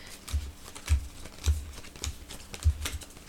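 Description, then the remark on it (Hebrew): Playing cards are counted out one at a time during a card game, each player counting the cards they received, each card landing with a soft papery snap and light thud in a steady rhythm, about six in a few seconds, with no talking. “עכשיו בוא נעשה ספירה, כל אחד יספור כמה קלפים הוא קיבל.”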